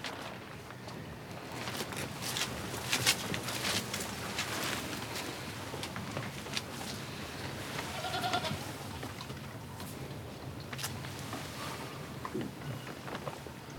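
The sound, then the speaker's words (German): Goats bleat now and then inside a stable, their calls rising over a steady rustling, noisy barn background with no one speaking. “Du lässt ihn hier schlafen, obwohl er krank ist? Bei den Ziegen?”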